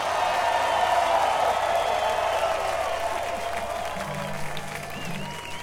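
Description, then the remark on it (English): A large audience claps steadily and continuously throughout, a dense, fairly loud wash of applause that holds its level with only a slight easing toward the end, welcoming fiddle player Bobby Hicks from North Carolina onto the stage. “That's all right, keep applauding.”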